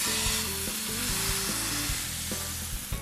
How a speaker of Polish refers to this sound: Gdy patelnia się rozgrzeje, wlewamy naszą masę na nią i smażymy omleta, aż się zarumieni z jednej i drugiej strony.